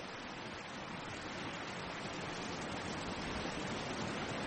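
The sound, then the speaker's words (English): Rushing water of the flooded Marne river pours past in a steady, dense roar that holds an even loudness throughout, with no voices or other sounds breaking through. “What river would that be? The Marne. It's in flood.”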